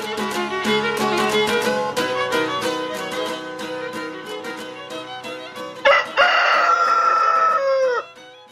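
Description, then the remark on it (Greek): An alarm clock plays a rooster-crow ringtone: a bright, buzzy cock-a-doodle-doo over a tinny, rhythmic electronic jingle, ending with one long, loud, sustained crow before cutting off. “μα έπιασε ξυπνητήρι με πετινάρι.”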